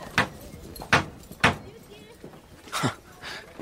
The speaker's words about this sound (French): Le fiacre s'arrêta. Le cocher souleva le marteau de bronze d'une porte immense. C'était l'hôtel de la Mole.